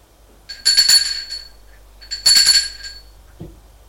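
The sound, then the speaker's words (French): A woman rings the doorbell of her apartment twice after leaving the elevator, two bright, metallic bursts, each a rapid trill of high chiming tones lasting about a second, followed by a soft faint knock-like thud. “Puis elle se souvient que son mari est peut-être là, donc elle sonne.”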